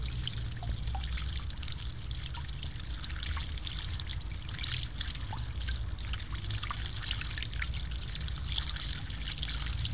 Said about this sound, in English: Rivulet. Small stream.